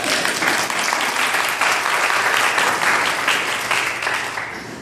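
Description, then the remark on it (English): A crowd applauds steadily for several seconds for the dedication of a Habitat house, a dense wash of many hands clapping at once, sustained and fairly loud with no one speaking. “Let me hear a clap about that.”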